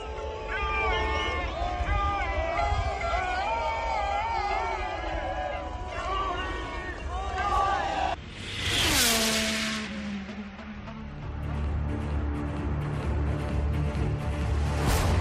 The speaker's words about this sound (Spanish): Y luego también hemos visto a Hamilton en Fiorano. Fijaros cómo bramaba el público a su paso.